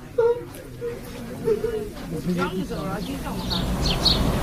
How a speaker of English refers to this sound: He doesn't give up, does he? That's one desperate peacock. That's a wood pigeon you're showing off to, you silly creature.